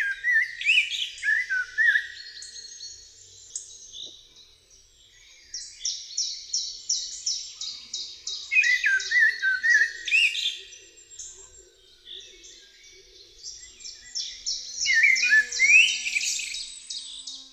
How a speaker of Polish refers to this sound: Śpiew kosa składa się z miękkich, melodyjnych gwizdów, wyraźnie podzielonych na zwrotki. Wydawany jest powoli, wręcz uroczyście, z regularnymi, kilkusekundowymi odstępami pomiędzy poszczególnymi zwrotkami.